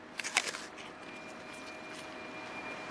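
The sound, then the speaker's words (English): A crisp, crunchy bite into a big, juicy slice of Bravo apple cut with a pocket knife: a quick cluster of sharp, crackling snaps in the first half-second, then only a steady faint hiss with no voices. “We'll have a crunch.”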